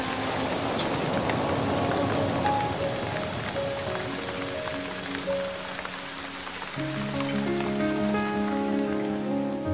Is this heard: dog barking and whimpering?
no